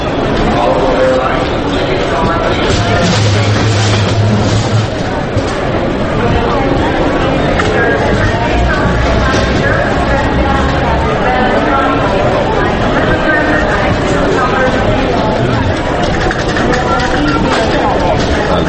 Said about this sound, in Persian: نشستم منتظرم که یه هواپیما یه چیز بلند شه بشه، اینجا صدا ترمینال هواپیماییه، یه ماشین اینجا رد میشه، ترمینال هواپیما هست